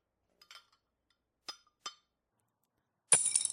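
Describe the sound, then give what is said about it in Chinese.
Light wooden clicks and clatters, a few sharp taps spaced apart, then a denser rattling burst as chopsticks dropped by a child during a family meal hit a hard floor and bounce, with no talking. “儿子，让你吃饭的时候不老实，这下筷子掉地上了吧？”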